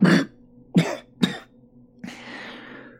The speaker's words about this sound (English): I cough up something wet and bloody.